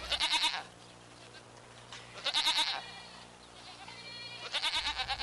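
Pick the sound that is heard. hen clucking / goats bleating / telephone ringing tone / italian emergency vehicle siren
goats bleating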